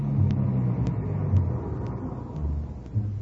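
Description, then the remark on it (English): A car engine rumbles low and steady as the vehicle drives off, with a faint, regular ticking about twice a second over the drone. No one speaks. “Mr. Sullivan came out, got in the car, and we drove off”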